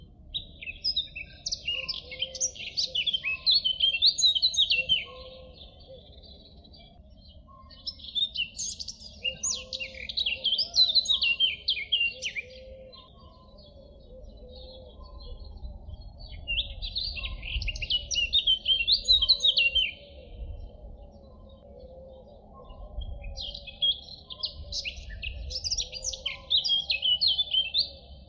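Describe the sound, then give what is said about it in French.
A songbird sings a whistled, fluty babbling song in four bursts of a few seconds each, separated by short pauses, with a faint low rumble underneath. “C'est un babil, sifflé, flûté.”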